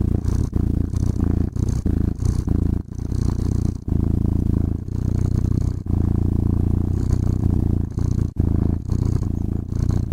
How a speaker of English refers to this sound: It only does one thing. It plays the sound of a cat purring. You can dial it in, change the sound, add meows, and even adjust the purrs per minute. Here's a quick sample.